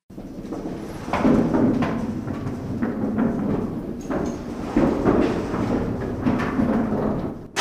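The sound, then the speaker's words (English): A theater thunder roll machine at a historic theater in Wilmington, North Carolina, rumbles for several seconds, heavy rolling weight giving a deep, continuous roar broken by irregular wooden thumps and knocks that swell and ebb, with no voices. “We are the only theater that we know of in America that still has an operating Thunder Roll, and one of maybe one or two in the world, actually, that still use the Thunder Roll.”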